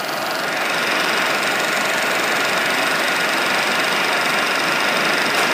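A PowerBook computer repairing disk permissions makes a rapid, steady mechanical clicking that blurs into a continuous whirring rattle, holding an even loudness throughout with no one speaking.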